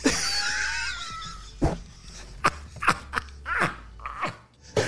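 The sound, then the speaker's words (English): A cartoon dog sound effect of the dog Muttley: a wheezy, raspy snickering laugh in several short bursts, opening with a squeaky whining sweep, with no talking over it. “Dog, that dog Muttley.”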